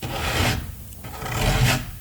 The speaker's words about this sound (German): Wo kommt das denn her? Es klingt wie ein Kratzen.